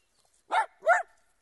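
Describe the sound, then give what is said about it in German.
A dog barks twice in quick succession, two short, loud barks separated by a brief pause, with no voices around them. “Miko, aus! Hör auf zu bellen!”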